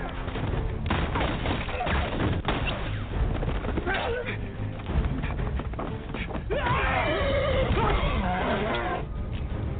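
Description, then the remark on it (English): A horse whinnies amid a dense, chaotic action mix of rapid gunfire and shouting voices in the film The Magnificent Seven, its rising and falling cry briefly standing out near the end. “Bullets, guys screaming, the occasional horse.”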